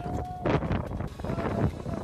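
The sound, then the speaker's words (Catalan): Strong wind on Aconcagua roars and buffets the microphone in a loud, continuous rush, with gusts swelling and easing throughout. “Sí, molt de vent, perquè estem a la Aconcagua.”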